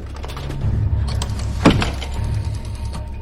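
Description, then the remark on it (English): The door of a red public telephone box, its paintwork rusting and peeling and its glass misted with rain, is yanked open with a single sharp creak and clunk midway, set against a steady low rumble of background noise; no one speaks. “He approaches a red public telephone box, paintwork rusting and peeling away, glass misted with droplets of rain. He flings open the door.”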